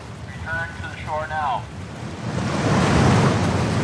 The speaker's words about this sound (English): Imagine a four-story building made of water, and it's coming at you at 30 miles an hour. Now imagine jumping into that wave as your job.